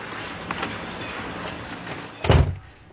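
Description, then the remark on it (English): A door is pushed closed with a solid, heavy thud near the end, preceded by faint shuffling and rustling with soft background hiss. “Shut the door.”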